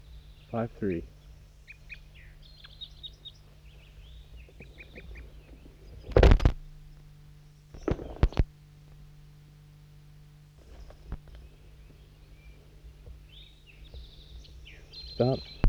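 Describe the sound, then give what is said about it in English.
Wild birds give short, high-pitched chirping calls in scattered bursts, some in quick rapid series, interrupted by a couple of loud thumping knocks midway and a low steady hum underneath. Bird 5-3 calls to wild birds that arrived about 30 seconds earlier; recorded at 7:11 a.m. on a hilltop where a net is set up. “and I got the net set up at the hilltop, and that's 5-3 calling to some wild birds that just arrived on the scene about 30 seconds ago.”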